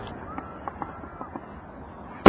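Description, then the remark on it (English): Fireworks going off outdoors at a fireworks display, recorded with a shotgun microphone: a handful of faint pops scattered over a quiet background hiss, then one sudden, much louder bang right at the end. “Who says wow in a fireworks display?”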